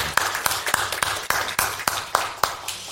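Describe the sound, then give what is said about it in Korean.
A church audience claps for the senior deaconesses after their hymn singing, in a steady, even rhythm, about ten sharp crisp claps in quick succession, fairly loud over a faint background murmur. “아, 박수 한번 쳐드릴까요, 우리 권사님들?”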